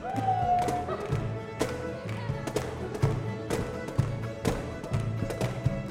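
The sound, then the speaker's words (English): Student flatfoot dancers stomp hard on a floor, a loud, steady run of heavy thumping steps and sharp taps, with a faint tone and some voices underneath. “basement rehearsal rooms have you been in that literally shake with the pounding steps of 10 flatfoot dancers”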